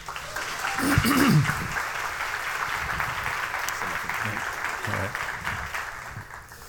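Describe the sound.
An audience at a church service applauds to welcome a guest speaker, a dense wash of clapping that swells near the start and holds at a fairly loud level, with a few brief shouts and voices rising through it.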